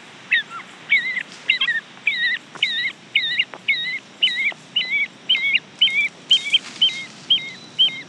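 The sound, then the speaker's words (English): A Lord Howe Island woodhen calls in a steady, rhythmic series of about a dozen loud, piping whistled notes, each a short wavering hoot, with no talking. “Or even the amazing and unique Lord Howe Island woodhen.”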